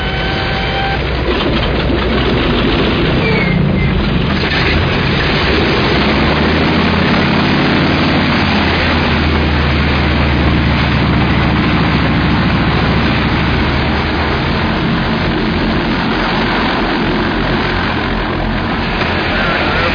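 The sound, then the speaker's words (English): Heavy airplane engines start up, rumbling and whining continuously in a loud low drone that builds and steadies into an idling roar as the planes wake up before taking off. “We're about to go into this sequence where the planes are sort of waking up and taking off, which is pretty extraordinary.”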